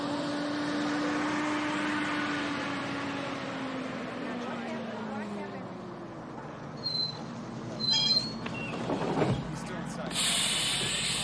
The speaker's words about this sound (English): A bus pulls up to Vincent's drugstore.